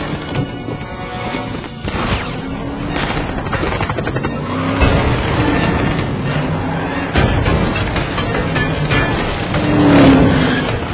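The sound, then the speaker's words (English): A car engine roars steadily during a chase, its loud rumble mixed with sharp bangs and clattering impacts, with no one speaking. “You must turn left to get ahead of the car.”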